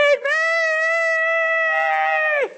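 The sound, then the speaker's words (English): A single sustained, high wailing cry from a human voice imitating a screaming hungry newborn baby during a sermon on 1 Peter chapter 2, loud, held steady for over two seconds before dropping off sharply. “How hungry is a newborn baby? They're screaming.”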